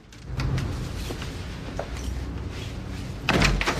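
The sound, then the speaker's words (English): A back door is pushed shut with a solid thud, followed by a brief rattle as it is locked, set against a low, steady background rumble. “He shuts it behind him, locks it, and takes out the keys.”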